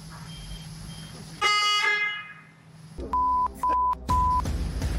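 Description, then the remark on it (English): A car horn is honked repeatedly: it blares once, fading out, then three short sharp honks follow in quick succession, loud over a low engine rumble, with no one talking. “You keep honking the horn, and it's interrupting him.”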